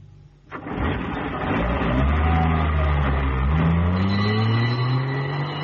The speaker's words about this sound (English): Oh, thank heavens, here's the ambulance.